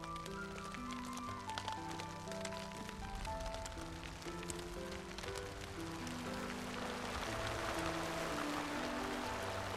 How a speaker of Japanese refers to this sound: もう三月以上もの間、雨が途切れることがありませぬ。 いくら包みを気づこうと、これほど降り続くのでは。